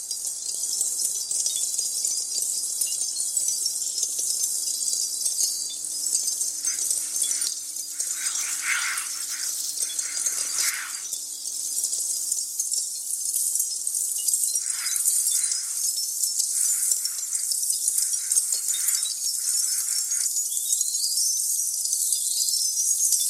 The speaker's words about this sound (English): Like in Xenakis' Concrete PH2, made from the sounds of the discharge of smoldering charcoal, tinkling all over the Brussels Pavilion, like needles darting from everywhere, as Zenaka says. You can hear excerpts of that piece right now.